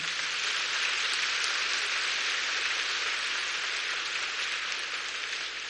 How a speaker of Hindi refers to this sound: इसलिए एक बार जोरदार अच्छी तरह से तालियां बजाएंगे।